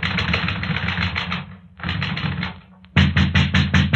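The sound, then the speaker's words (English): Rapid, insistent knocking on a door in three bursts of quick raps separated by short pauses, with the final burst the loudest and most forceful. “Hello? Who's there?”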